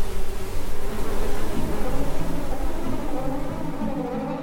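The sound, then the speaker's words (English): A steady, dense drone of many bees buzzing together, fairly loud, holding a continuous hum with no pauses for several seconds. “Take the bees.”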